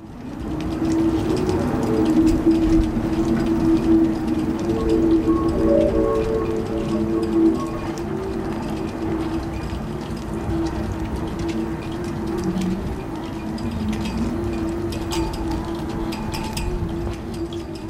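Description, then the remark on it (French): Wind moans through a few poles near the school in Inukjuak, recorded by the artist Nimalan Yoganathan: a steady, eerie drone of overlapping tones that waver and shift in pitch, sustained and fairly loud throughout, over a rough rushing background with no voices. “C'était le vent qui traversait quelques poteaux tout près de l'école, je pense l'école secondaire dans ce coin-là, Inukjuak.”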